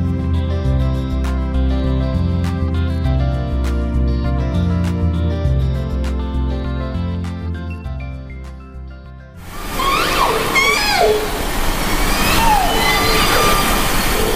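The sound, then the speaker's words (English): Calm sustained music gives way to a group of wild orcas vocalizing in Puget Sound off the coast of Washington State: repeated rising and falling squeals and whistles over a steady hiss of water noise, fairly loud for the last several seconds. “The sound there of a group of wild orcas in Puget Sound off the coast of Washington State.”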